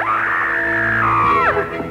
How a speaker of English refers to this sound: Okay, just scream. It's very easy.